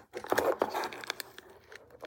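Busy crinkling and rustling of a small plastic bag as a hand rummages and digs through it to get an item out, with sharp crackles and crunches over about two seconds, no voices.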